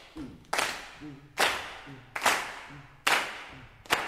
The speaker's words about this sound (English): Can we just practice that once? Let's start clapping together on 2 and 4.